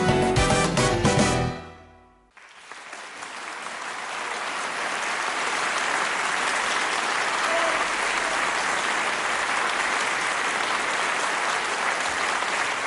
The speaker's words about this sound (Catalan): Cada dia un aplaudiment a Ràdio Estel. Avui, com a homenatge als metges, infermers i infermeres que han treballat tant contra el virus i per tenir cura de tantes i tantes persones. El nostre aplaudiment per vosaltres.